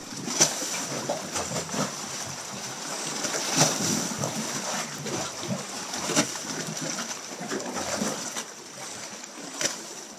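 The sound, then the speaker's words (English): Water churns and sloshes continuously in rock crevices, with repeated sharp surges and splashes breaking through a steady rushing wash. No voices, just the restless movement of water. “The water was really moving in these crevices.”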